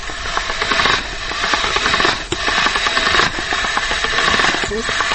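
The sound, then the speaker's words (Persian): A steady, grinding motor whir with a rough rasping texture runs continuously, swelling slightly in bursts, as meat previously cooked with garlic in a steam pot is put through a meat grinder, with faint talk beneath it. “خب آل گوشت همراه سیر در دیگ بخار که قبلا مجهوش شدیم او رو از ماشین گوشت میکشیم.”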